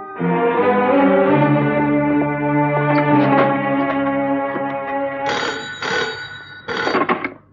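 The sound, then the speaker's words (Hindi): A telephone rings in two short, bright bursts near the end of an outgoing call being placed, following several seconds of sustained, echoing tonal sound. Fairly loud, with no voices. “उस दिन तुमने एक फोन किया था, आज मैं एक फोन करूंगा।”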